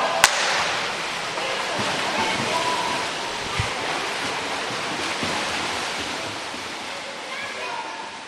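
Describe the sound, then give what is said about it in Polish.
Steady, dense water splashing as swimmers swim one pool length at full speed in a streamline on their stomachs, kicking with legs only as in front crawl, with a continuous churning wash and faint voices echoing in the background. “Dobrze, uwaga, waszym zadaniem kolejnym będzie jeden basen, ale na pełnej szybkości, strzałką na brzuszku, same nogi do kraula.”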